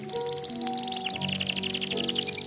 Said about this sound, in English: It was a pretty big thing. There were hundreds of such recordings made. This is one of those many recordings of some kind of canary aviary accompanied by some sentimental piano music.